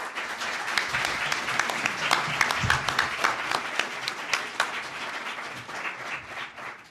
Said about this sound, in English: And while she's coming up, let's give the candidates a round of applause.